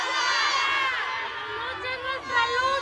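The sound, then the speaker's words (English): At a women's march in Mexico, hundreds of women shout and cheer in support of the mother and sisters of a murdered 13-year-old girl, many high-pitched voices overlapping in a loud, continuous roar that swells again toward the end. “Around them, women embraced, raised their fists, and erupted in shouts of support.”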